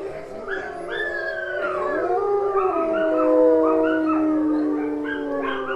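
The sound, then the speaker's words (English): Rescued wolf dogs howl together in a sustained, overlapping chorus, with a coyote's short high-pitched yips breaking in among the long wavering howls, fairly loud throughout. “As does a coyote with a series of high-pitched yips.”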